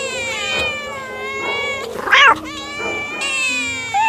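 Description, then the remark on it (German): Several cats in the cat quarantine of an animal shelter in Düren, Germany, meow and caterwaul in long, wavering yowls that overlap and rise and fall, with a sharper, louder cry in the middle; fairly loud, no talking. “Den ganzen Tag ist sie umgeben von Katzen.”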